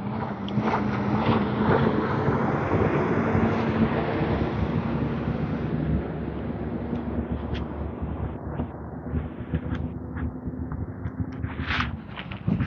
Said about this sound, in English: There's a big flatbed tow truck coming. That's the noise.